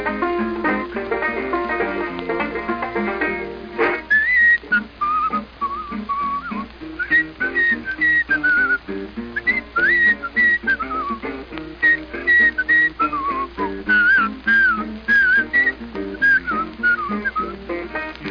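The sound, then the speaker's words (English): A person whistles a bouncy ragtime melody, clear and fairly loud, with quick sliding notes over a steady rhythmic accompaniment that plays alone for the first few seconds. “Can you play the Madison Street Rag?" I said, "I'll play it if you whistle it.”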